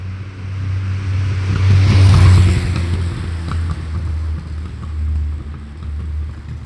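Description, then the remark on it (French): A car engine starts and runs, its low droning hum swelling into a brief rev near the start before settling back to a steady running idle, with no voices. “En plus, il se trouve que quand elle tourne, quand elle se met en route, elle chante.”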